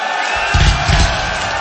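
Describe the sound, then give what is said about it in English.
A loud live audience cheers and whoops in a dense, continuous roar that swells briefly midway, filling the whole short moment with no single voice standing out. “There's hardly anybody up here, and you are a fucking good, loud crowd.”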